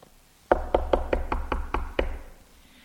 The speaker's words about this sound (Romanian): Iată, eu stau la ușă și bat.